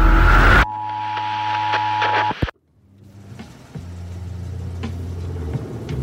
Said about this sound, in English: It's a cop car.